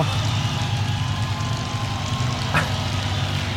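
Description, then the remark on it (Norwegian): A Spitfire aircraft engine drones steadily and loudly, a deep, rumbling piston roar with a constant low pitch and a brief higher whine partway through, and no voices over it. “Spitfire, altså. Ja, den motoren der.”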